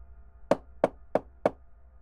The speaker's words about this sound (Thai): เสียงเคาะที่หน้าประตูห้องดังขัดจังหวะขึ้นมาเฮ้ยสงสัยคุณหมอคงมาถึงแล้ว